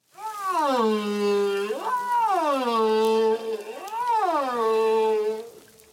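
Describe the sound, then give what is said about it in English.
Humpback whale song: long, loud moaning calls that swoop up and down in pitch, a sustained wavering tone sliding through several rising and falling glides with no voices present. “If you want to really sound like a humpback, here you go.”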